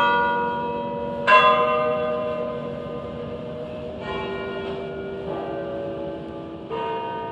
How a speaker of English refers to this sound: Floral tributes were laid at the sites where suicide bombers blew themselves up on 3 underground trains and a bus, and bells tolled at the exact time the bombs exploded on the morning of July 7th, 2005.